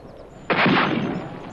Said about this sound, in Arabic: إنهم يطلقون النار علي يا صفر بيك.